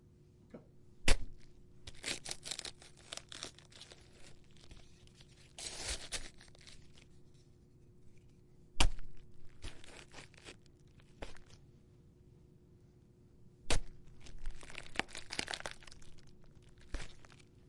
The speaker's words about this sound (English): Cabbage patch stabs, take one. Give it a second. Wait for him to get off the plastic.